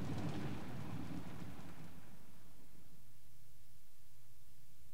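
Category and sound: nature, rain falling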